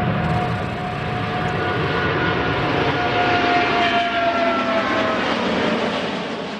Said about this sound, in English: Boeing completed the maiden flight on one of the world's largest twin-engine jetliners, the 77X, as the embattled plane maker steps up competition with European rival Airbus.